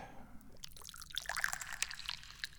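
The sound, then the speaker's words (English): Dahong Pao tea trickles and splashes into a cup in a steady pour lasting a couple of seconds, with bright dripping, gurgling detail and no voices. “I'm the chairman of the Dubious Goals Committee, and I'm the guy who's always pouring the tea.”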